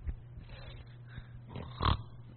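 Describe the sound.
A voice imitates snoring to depict Jesus asleep in the boat: rough, nasal snorts, a few short rasping breaths, then one louder, drawn-out snort near the end, over a low steady hum and no spoken words.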